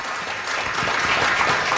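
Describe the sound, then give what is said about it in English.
A morning audience applauds steadily for cast members of Holiday Inn, which is about to open at the Marriott Lincolnshire, a dense, even wash of many hands clapping at a loud, sustained level with no voices breaking through. “Let's hear it for them, everybody.”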